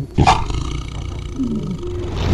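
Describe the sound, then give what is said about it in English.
About 20 big cats at a zoo roar at once, deep rumbling calls overlapping into a loud, sustained chorus with a sharp burst at the start and low growls running underneath. “All those noises of like 20 cats all together vocalizing at the same time.”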